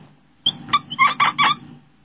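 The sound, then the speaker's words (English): A marker squeaks across a whiteboard in a quick run of five or six short, high-pitched, chirping strokes, fairly loud, with no talking over them. “It's a really squeaky marker.”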